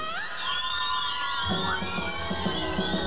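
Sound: crowd screaming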